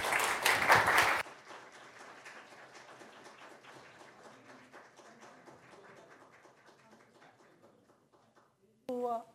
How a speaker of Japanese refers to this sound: どうぞ拍手でお迎えください。